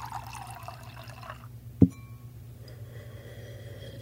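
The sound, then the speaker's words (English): Water is poured for someone to drink, steadily for about a second and a half, then stops with a single sharp clink or drip, leaving a quiet hum behind. “Let's get you some water, bud.”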